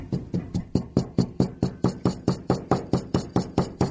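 A glass holding rice and a bouncy ball banged on a table again and again, about sixteen sharp thuds at a quick, steady rhythm of roughly four per second, each with a brief ringing decay. No one speaks.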